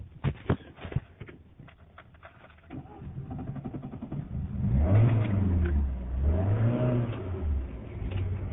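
A bus engine revs behind the speaker's vehicle, its low drone swelling loudly and dipping in pitch twice, after some clicks and rattling near the start. No one speaks.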